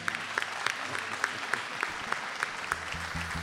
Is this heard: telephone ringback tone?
no